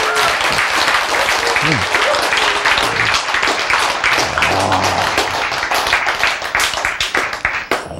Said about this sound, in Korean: 박수! 예! 네.